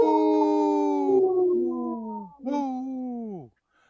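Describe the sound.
A person imitates a wolf howl on the radio show Native Roots Radio, giving one long wavering howl that sinks in pitch, then a shorter second howl sliding downward before falling silent; loud.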